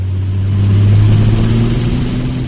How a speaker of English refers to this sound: It's sunny and hazy as our single-engine Cessna takes off from Shelby Cleveland County Regional Airport. Pretty quickly, we're up 1,000 feet.